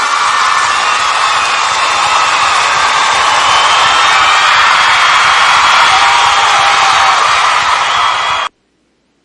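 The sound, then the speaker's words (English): A large audience applauds and cheers as Miss TLC is introduced on a show, in a dense, unbroken roar of clapping and shouts that holds a steady, loud level for about eight seconds, then cuts off abruptly. “That was a 2 minute applause.”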